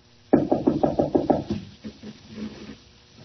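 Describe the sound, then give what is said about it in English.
A quick series of about seven firm knocks on the locked wooden door of a room, evenly spaced, followed by a few softer, irregular thumps and rattles that fade out. “Nothing doing. I thought so. Locked.”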